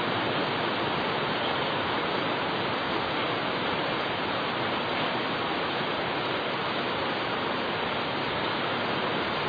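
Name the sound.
rain falling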